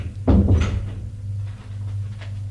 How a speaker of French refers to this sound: Elle lui dit, entrez. Il entre. Elle ferme la porte.